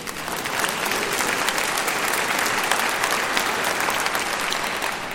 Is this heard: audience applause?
yes